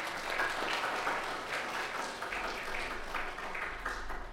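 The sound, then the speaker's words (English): A church audience applauds after a dedication, a steady, dense wash of many hands clapping at once, holding a fairly even level for the whole stretch with no voices standing out. “Let's give him a round of applause, church.”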